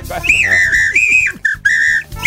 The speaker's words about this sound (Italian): un fischietto. Quello dei cani, peraltro. Allora, non sono i vigili, lo dico per quelli che magari in macchina adesso non si aspettavano di sentire questo fischiettino.